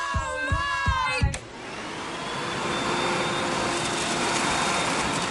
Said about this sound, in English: She scrunches her face as Sunny vacuums.